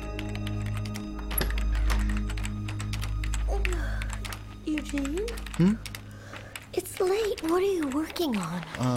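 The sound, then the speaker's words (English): Rapid, irregular clicking of keys on a keyboard, fairly soft, as someone types out a list of things to talk about, continuing throughout while people talk over it in the second half. “I'm typing out a list of things I want to talk about with my father the next time I see him.”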